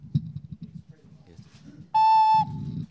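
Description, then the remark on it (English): A single bright, sustained ocarina note rings out loudly for about half a second, rising above a low murmur of voices that continues before and after it. “who sometimes plays the keyboard, and lately he's been playing this wonderful ocarina, and it's always a delight.”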